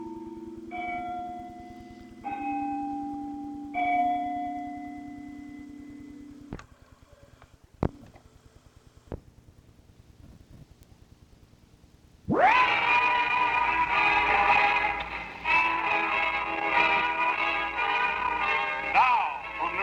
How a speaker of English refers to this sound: Isn't that carillon beautiful? What do you say? I say, isn't that carillon beautiful? The goddamn bells are making so much noise, I can't hear a damn word you're saying.